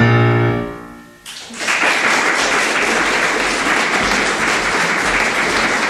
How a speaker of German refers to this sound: das Klatschen, das ist auf jeden Fall berechtigt.